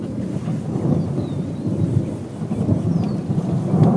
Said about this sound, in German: Es gewittert.